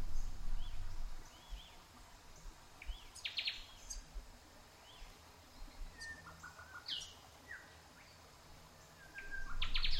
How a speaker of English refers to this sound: As you walk, listen to the gentle rustling of leaves overhead and the melody of native birds.